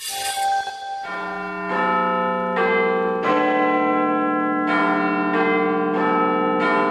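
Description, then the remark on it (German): Big Ben, the largest of the five bells in the clock tower in London, chimes at 1 p.m. a slow sequence of about eight deep struck notes, each ringing on and overlapping the next in a rich, resonant wash, with no voices. “Diesen weltbekannten Glockenschlag werdet ihr so schnell nicht wieder hören. Das war Big Ben, das Wahrzeichen von London, die größte von 5 Glocken, die der berühmtesten Turmuhr der Welt ihren Klang verleihen.”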